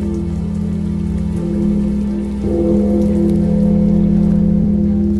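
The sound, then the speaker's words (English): Rain drums steadily on a large metal drum, a dense, continuous patter with a low, ringing hum underneath, loud, with no voices, growing slightly stronger partway through. “You are listening to the noise of rain beating against a large metal drum.”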